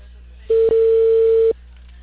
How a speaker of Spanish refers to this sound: toque de timbre.